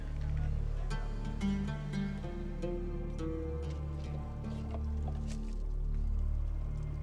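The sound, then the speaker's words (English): Dirty river water that people collect as drinking water sloshes and drips, with scattered sharp drops and squishy splashes over a steady low hum, as if water is being scooped up and left to trickle back. “To think that this is the water that people come to get their drinking water.”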